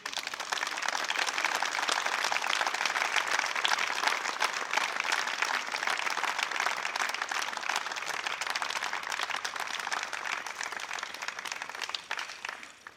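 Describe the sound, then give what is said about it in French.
Sustained audience applause for the winners of an international clandestine poetry prize fills the whole stretch, a dense, steady wash of many hands clapping at an even loudness, tapering slightly right at the end. “On les applaudit.”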